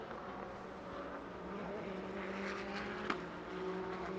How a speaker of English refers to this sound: So cars getting back up to speed. The crackle of the upshifts, like a rifle shot.